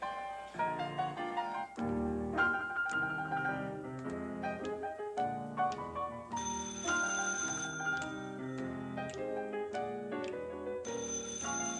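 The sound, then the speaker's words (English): A telephone rings repeatedly as a phone cue in a rehearsal, in bright, melodic, loud bursts with a tinkling, tuneful quality that carries on steadily for several seconds with no voices. “Now watch those phone cues, will you, honey?”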